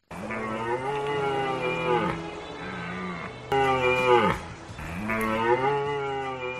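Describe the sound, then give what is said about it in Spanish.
Deer stags bellowing during the autumn rut in the mountains of Sierra de Cebollera, a series of three or four long, throaty roars in close succession, loud, with no talking. “Cada otoño los montes de esta sierra se llenan de un sonido único, el bramido de los ciervos en plena berrea.”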